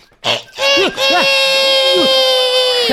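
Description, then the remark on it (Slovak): A human voice imitates a rooster crowing: a loud, high-pitched call that starts with short rising and falling bursts, then stretches into a long, steady, strained note. “No, a toto čo bolo? Moje kohutie kikiríkanie.”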